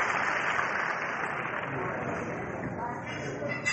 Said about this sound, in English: Big round of applause. Thank you. Good night.